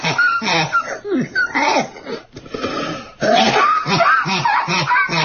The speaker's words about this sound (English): Here's her. This is her coughing. Listen to this.